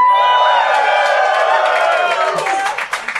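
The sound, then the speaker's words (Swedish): A live audience erupts in loud cheering and whooping, with a dense wash of clapping growing more distinct toward the end, filling the whole moment without a break. “Vi vill ha en liten reaktion från publiken.”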